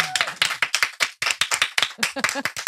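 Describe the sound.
Loud, sustained audience applause welcoming a guest: dense, rapid clapping from many hands, with a few cheering voices rising through it.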